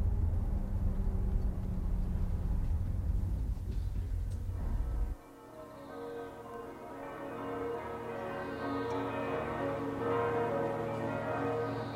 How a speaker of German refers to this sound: Im Klang der Glocken bin ich angekommen. Das ist für mich Europa, als ob ihre gewaltige Resonanz sich direkt aus der Geschichte der katholischen Kirche speist. Raumbeherrschend, arrogant.